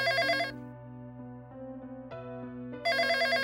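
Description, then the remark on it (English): A coworker's phone at work rings, its ringtone playing a steady electronic melody, with bright tonal bursts at the start and end framing a softer, sustained middle section, heard clearly with no one speaking. “Anyway, she had been working at the new job, and one day, while a few of her coworkers were out to lunch, one of the other workers' phone began to ring.”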